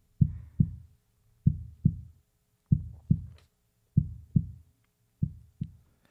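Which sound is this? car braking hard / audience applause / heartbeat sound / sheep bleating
heartbeat sound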